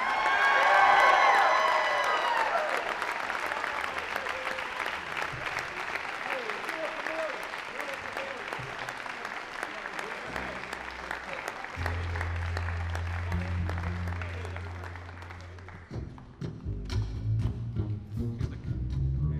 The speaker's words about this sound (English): The entire crew of Lovett Auditorium for helping to make this very special evening possible. How about a hand for everybody?